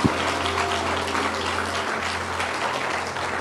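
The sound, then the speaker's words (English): An audience applauding steadily to celebrate eight or nine people who decided to accept Jesus, a dense wash of many hands clapping at an even loudness throughout, with a low steady hum underneath and no clear voices. “Come on, we can keep clapping.”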